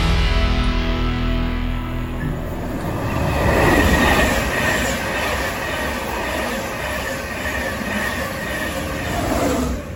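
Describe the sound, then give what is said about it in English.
A train rumbles loudly and steadily through Grantham Station, England, with a low mechanical drone, rhythmic wheel noise and a faint high squeal, without any talking, while someone waits for a train to London King's Cross. “So I am currently at Grantham Station waiting for my train to London King's Cross.”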